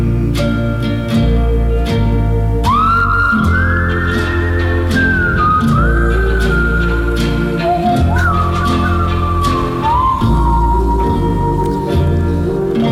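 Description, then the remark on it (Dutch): Someone whistles a smooth, wavering melody into a microphone left open, the notes sliding and held, over steady background music with no talking. “Ja, ik merkte eigenlijk dat de microfoon die stond nog open, want ik was aan het fluiten, maar dat was helemaal niet de bedoeling eigenlijk.”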